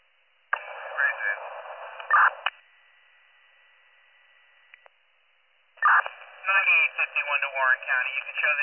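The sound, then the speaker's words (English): Two bursts of dispatch pager alert tones come over a tinny radio channel, separated by a few seconds of faint hiss, with a garbled radio voice mixed in; an additional set of tones calling all members directly to the scene of a call for an unconscious, non-breathing 55-year-old man. “Additional set of tones, all members directly to the scene, please.”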